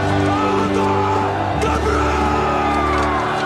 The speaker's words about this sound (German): Und auch diesen Ausspruch, diesen Schrei, den ihr am Ende hört.